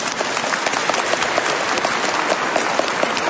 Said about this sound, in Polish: Są z nami nasi przyjaciele z parafii Podwyższenia Krzyża Świętego z Łopusznej. Brawa dla nich.